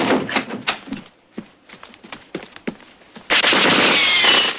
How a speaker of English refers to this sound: John fires into an empty compartment. Harry shoots at a lock.